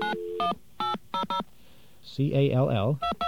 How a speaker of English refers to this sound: I want you to hear something. Let's get our dial tone back.